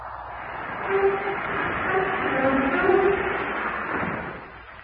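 An airplane braking after touchdown: a steady, heavy roar with rumbling and a faint tonal whine, swelling slightly through the middle before easing off at the end.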